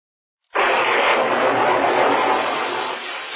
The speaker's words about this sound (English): That's one of our hovercrafts, and I don't recognize the pilot.